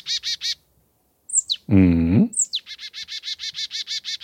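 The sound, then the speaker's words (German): A bird gives a sharp, whip-like rising call twice, around a harsh, buzzy chattering note, framed by fast rhythmic series of high chirps before and after, heard clearly with no talking. “Der klingt so ein bisschen wie so ein Peitschenhieb, stelle ich mir immer davor.”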